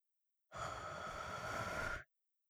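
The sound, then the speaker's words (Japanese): A single soft, warm breath blown out steadily right against the microphone, lasting about a second and a half with an airy, breathy hiss and no talking. “敏感な亀さんに生温かい吐息。”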